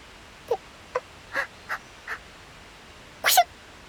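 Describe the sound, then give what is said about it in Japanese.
A single sharp, fairly loud sneeze bursts out near the end, preceded by a few short, softer catches of breath, from a person chilled and wet while out on Mount Akagi. No talking. “体温調整アラート、くしゃみ出ちゃった。”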